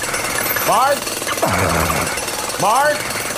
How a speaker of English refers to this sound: I just wanted to say congratulations and he's got a jackhammer.